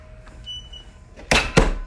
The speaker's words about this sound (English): Yeah, that's a very old doorbell, probably from the 50s or so.